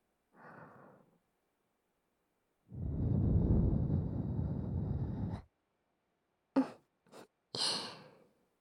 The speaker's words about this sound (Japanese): 感じていいんだよ、女の子のあったかい吐息で。お耳感じても恥ずかしくないよ。